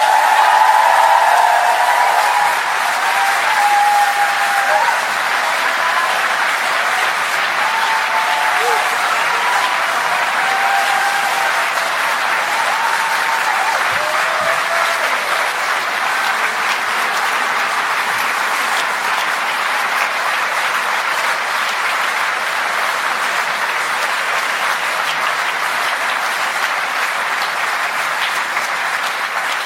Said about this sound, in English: Now, they say you should end big speeches on huge applause.